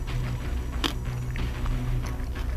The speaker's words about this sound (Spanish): Hay gente que mastica muy bajito, pero esto es radio también. Esta... Uy. Está dura, sí.